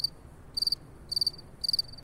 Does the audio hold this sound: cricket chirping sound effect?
yes